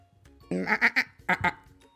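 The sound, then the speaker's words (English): A person imitates a goat's bleat for the character Goat in a read-aloud children's story: a wavering, quavering 'maa-a' in two bursts, the first longer and the second shorter, voiced loud with no other talk. “Said Goat, but what he thought was, I'm hungry.”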